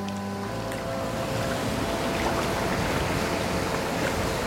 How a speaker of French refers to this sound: Des vagues, toujours des vagues, mousseuses, bien lisses, vides ou habitées. On n'entend qu'elles parmi ce sourd silence.